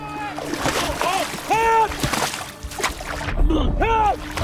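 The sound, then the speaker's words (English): A man runs splashing from a beach into cold water, a steady churn of sloshing and splatter, while his voice calls out in several rising, wordless shouts over the noise. “He runs into the water.”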